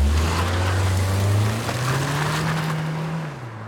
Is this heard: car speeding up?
yes